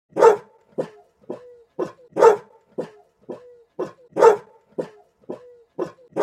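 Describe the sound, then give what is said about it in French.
Dogs at an SPPA animal shelter bark over and over in a steady rhythm, loud full barks alternating with shorter, sharper yaps, with no other voices heard. “Au total, chaque année, la SPPA recueille 400 chiens.”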